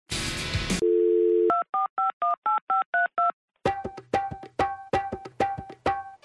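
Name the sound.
telephone keypad dialing tones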